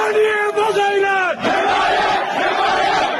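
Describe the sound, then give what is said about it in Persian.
A crowd of protesters in Mahabad shouts together, calling for support: a loud sustained cry of many voices with rising and falling harmonics, briefly dipping before swelling again into a dense roar of yelling. “این فریاد حمایت طلبی مردم مهاباد.”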